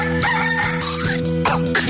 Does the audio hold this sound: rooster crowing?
yes